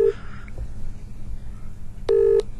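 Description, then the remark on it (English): A call being dialed on a phone during a radio show: a brief electronic tone at the start, then a longer, loud, steady buzzy tone near the end, with a low background rumble in between. “I'm just calling you quickly.”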